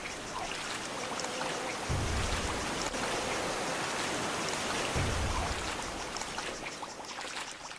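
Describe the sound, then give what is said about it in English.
Steady, dense, loud rush of water gushing from a geyser in a video game fills the whole clip, with two brief low thumps breaking through around two and five seconds. No voices. “It's kind of unrealistic how it just cuts out like that. But it's a game. Let's walk away from the geyser.”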